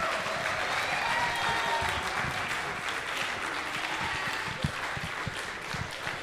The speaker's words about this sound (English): Why'd you stop clapping? Keep clapping for the ….